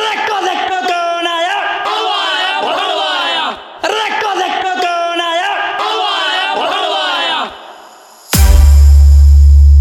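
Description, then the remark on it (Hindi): A large crowd shouts loudly in unison at a DJ's entry, a chanted phrase repeated twice with a short break between, then an abrupt burst of harsh, loud noise cuts in at the end. “और सुन, हमारे एंट्री पे पब्लिक ताली बजावत था और तोरे एंट्री पे पब्लिक का कहत था, ले सुन सारे।”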